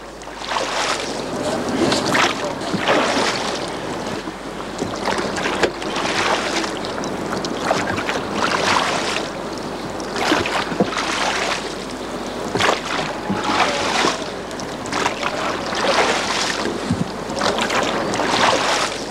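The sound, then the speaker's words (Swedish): Oars of an old boat, boat number 5 from the Swedish parliament building's garage, dip and pull through water on Strömmen in Sweden during a trial run, in a steady rhythm, each stroke a splashy swish repeating every second or so, with wind rushing across the microphone throughout. “Det enda sättet att förstå den här båtens historia är att själv sätta sig vid årorna.”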